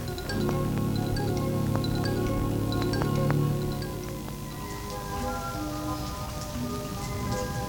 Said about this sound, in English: Do you believe this rain?